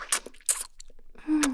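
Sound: wet mouth slurping sounds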